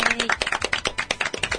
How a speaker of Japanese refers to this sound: はい、ということでエンディングです。イエーイ、拍手。